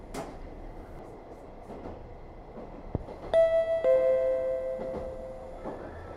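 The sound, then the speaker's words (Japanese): A train rumbles along, then a sharp click gives way to a loud, sustained metallic squeal of braking wheels as it slows into Mizuno station, fading near the end. “水野、水野です。ホームと電車の間が空いています。”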